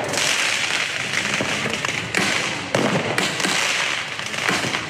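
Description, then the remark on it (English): Fireworks fired off by protesters at police during a night of protests in France crackle and bang continuously, with sharp loud reports at irregular intervals over a dense, hissing background of popping and crowd noise outdoors. “Protesters fired off fireworks at police.”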